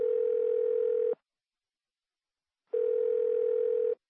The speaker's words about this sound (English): A good employee would have answered that phone by now.